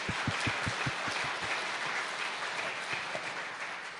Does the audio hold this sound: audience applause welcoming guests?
yes